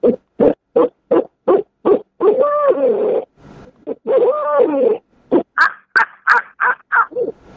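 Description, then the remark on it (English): A person imitates an owl on a call, hands cupped over its end, giving a run of short, evenly spaced hoots, then two longer wavering trills, then a final burst of higher, quicker hoots, loud. “You don't have to be good, even though that sounds like an owl call.”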